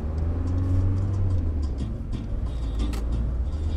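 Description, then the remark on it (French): A large car rumbles past, its deep, steady engine drone filling the whole moment with low road noise and a few faint high clicks on top. “Grosse voiture.”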